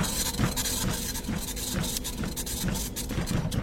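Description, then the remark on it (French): A printer prints out an incoming message with a steady mechanical whir, broken by repeated clicking, rasping bursts about twice a second. No one speaks. “Ah oui, il y a même une imprimante, dis donc.”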